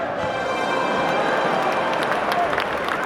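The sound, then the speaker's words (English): A crowd shouting in a loud, steady roar of many overlapping voices, sustained for a few seconds with no clear words standing out. “What means this shouting? I do fear the people choose Caesar for their king.”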